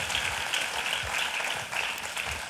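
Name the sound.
applause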